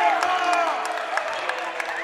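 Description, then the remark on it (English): A basketball crowd in the stands protesting a referee's whistle called on Crosby Lexington: a loud, steady roar of many raised voices, with drawn-out shouts and scattered sharp claps or stomps cutting through. “Loose ball, whistle called on Crosby Lexington, and they're not happy with that call up here in the stands, if you can hear.”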